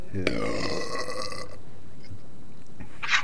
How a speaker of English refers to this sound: An empty can. Jeez, you finished that faster than I did. Yeah. Let's wait for the burp now. Wow.